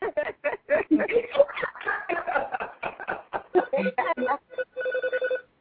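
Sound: phone ringing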